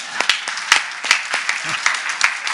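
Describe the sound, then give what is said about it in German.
An audience applauds the speaker's wife with steady, dense clapping, many hands overlapping into a bright, crackling wash with a few sharper individual claps standing out throughout. “Lass das mal klatschen für meine Frau.”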